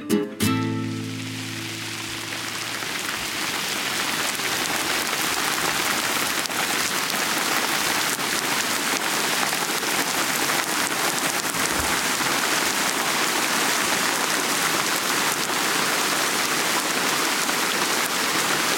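A heavy downpour of rain falls continuously, a dense, even hiss of drops on surfaces that fills the whole scene, after a brief tonal note fades out at the very start.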